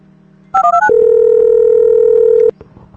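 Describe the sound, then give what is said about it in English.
Softphone call tones as the SJ Phone VoIP client is started: a quick run of three or four short electronic beeps, then a steady, loud dial-like tone holding for about a second and a half over a faint low hum, no talking. “And let me see what happens when I fire up SJ phone.”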